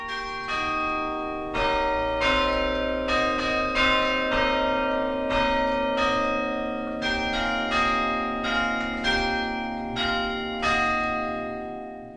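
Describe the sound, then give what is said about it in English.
Church bells peal the hymn Amazing Grace as a slow melody, each struck note ringing out and overlapping the last in a rich, sustained wash of tones, steady and fairly loud with no voices. “And for the first time, Chris, in my life, living in that house, I heard the church bells peal, Amazing Grace.”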